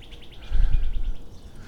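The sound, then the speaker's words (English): A female flicker perched on a branch calls in a quick, even series of about ten bright, repeated notes over a low rumbling background with no voices. “That's the female flicker. Going hoot, honk, honk, honk.”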